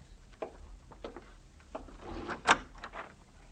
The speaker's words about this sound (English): It's them, Cole. All right, Bob, open the door for them.